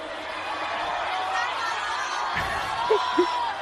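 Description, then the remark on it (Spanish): A large concert crowd in Guatemala roars and cheers in a dense, sustained wash of noise after being asked for a shout from everyone proud to be from Guatemala, with a couple of sharper shouts and whoops rising out of it near the end. “se puso a animar a la gente pidiéndoles un grito a todos los orgullosos de ser de Guatemala”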